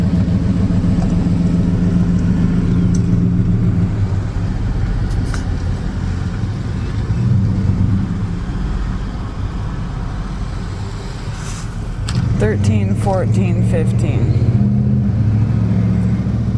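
Cars rolling slowly through a parking lot, their engines a steady low rumble throughout, with a brief high-pitched squeal partway through. No one speaks.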